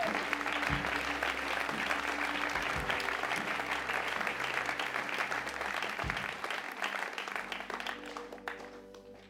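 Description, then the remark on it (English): A crowd breaks into sustained applause given up to the Lord, dense overlapping claps holding steady for several seconds before thinning out and fading toward the end. “Come on, let's give it up to the Lord.”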